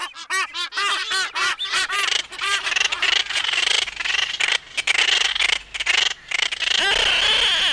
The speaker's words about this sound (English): red-tailed tropic bird.